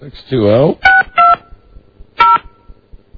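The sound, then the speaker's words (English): Three crisp touch-tone beeps sound at uneven intervals as someone dials a fax number on a phone, fairly loud, right after a brief burst of a voice at the start; the rest is quiet with faint background noise. “answer your fax phone.”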